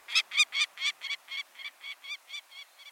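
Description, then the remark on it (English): A mid-sized peregrine falcon calls in a quick series of about a dozen harsh, scratchy notes, about four per second. It starts loud, then eases off slightly toward the end, with no other sounds. “The mid-sized peregrine falcon nests in some locales across the country, but its numbers are greatest in winter, especially near the coasts.”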